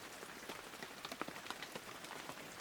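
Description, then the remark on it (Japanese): Steady rain falls with a dense, hissing wash, punctuated by scattered sharper drops striking a hard surface. No voices are present, just the continuous patter. “振り返ると、雨に打たれずぶ濡れになった黒田が視線を落としたまま黙々とついてきていた。”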